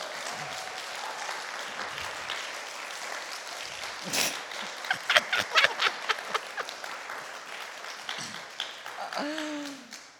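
An audience breaks into sustained applause for a woman who has just shared her story, a dense wash of many hands clapping for several seconds with sharper individual claps standing out, before it tapers off and a voice begins to speak.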